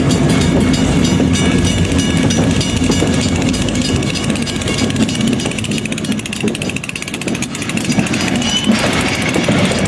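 A steady train ride played as background ambience rumbles throughout, with continuous low-frequency roar, metallic rattling and faint rhythmic clatter of wheels on track, loud, with no voices.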